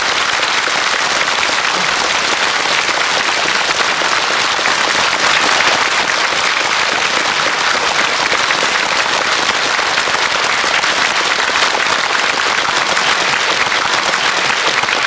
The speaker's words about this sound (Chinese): 我们以最恭敬的掌声来恭请师父。